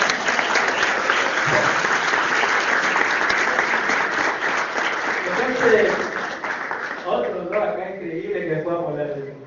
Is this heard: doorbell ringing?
no